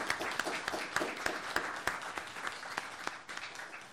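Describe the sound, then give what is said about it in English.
An audience applauds a panel's panelists steadily for about four seconds, a dense wash of many hands clapping with a few sharper individual claps standing out, moderately loud and with no talking. “I'd like to ask everyone to please give our panelists a round of applause.”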